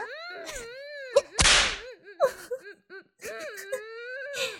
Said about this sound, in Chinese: 这一鞭子啊，让我看看你的屁股翘不翘。哎，你别乱动啊，都抽到你的大腿了。